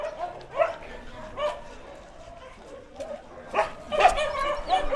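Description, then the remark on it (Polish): A dog barks several times in short, irregular bursts, a few sharp yips mixed with fuller woofs, loudest near the end, over a faint low background murmur. “Te psy to są tacy terapeuci.”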